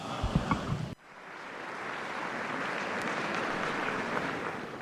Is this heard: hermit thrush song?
no